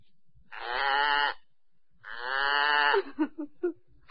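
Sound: goat bleating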